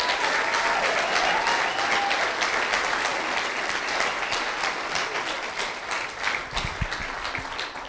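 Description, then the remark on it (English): A crowd applauds steadily for several seconds, a dense, even wash of many hands clapping that stays loud throughout and thins slightly toward the end, with no one speaking. “Could we give them another round of applause?”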